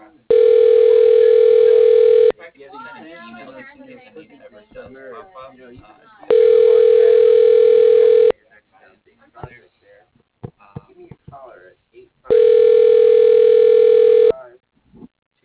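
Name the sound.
telephone tone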